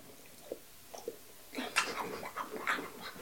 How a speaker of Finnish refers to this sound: Meillä on koira studiossa. Hei Martti! Sulla oli hyvät painit. Me nähtiin äsken ikkunasta. Hyi, sä kuolasit mun päälle.